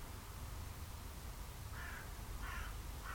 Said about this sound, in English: Becoming aware again of any sounds that might be around us. Bird in the background.